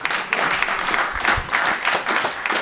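A crowd applauds steadily, dense overlapping hand claps forming a continuous roar of clapping that stays loud and even throughout, with no one speaking.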